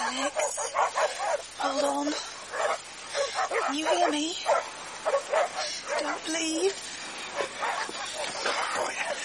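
dog yelping and barking

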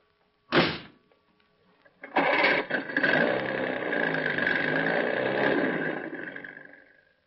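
car engine running

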